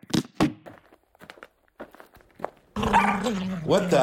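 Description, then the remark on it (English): A dog gives two sharp barks, then a few scattered softer yips and scuffles before a dense, sustained wash of louder sound takes over. “Get that dog off my leg!”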